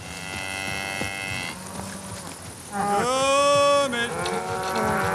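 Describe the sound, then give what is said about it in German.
A farmer calls out to his cows across an open pasture with a loud, drawn-out cry that rises and holds. Fainter calls come before it, over a soft buzzing outdoor background. “So ruft … seine Kühe.”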